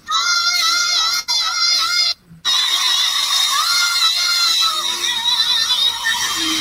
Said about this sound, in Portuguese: Aí ela vai ser aplaudida por todos os artistas aqui, quer ver?